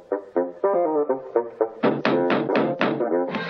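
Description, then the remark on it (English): Around a dozen hollow, ringing knocks on a neighbor's door in the morning, in an uneven rhythm, softer at first, then louder and heavier toward the end, with no one talking. “I have to rap on this door much longer.”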